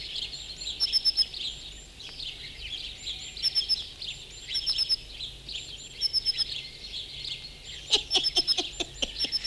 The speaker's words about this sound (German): Alle Vögel sind schon da, alle Vögel, alle.